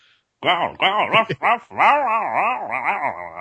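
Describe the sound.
A woman's voice imitates a dog as the voice of a dog character in a performance, producing a rapid series of yelping, barking sounds with rising and falling pitch, fairly loud, running continuously for a few seconds.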